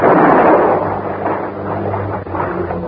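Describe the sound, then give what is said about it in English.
A single loud gunshot, fired by Helen, cracks at the start, followed by a long, rumbling, noisy tail that slowly fades over a few seconds. No voices are heard. “At the end of the water, Helen fired again.”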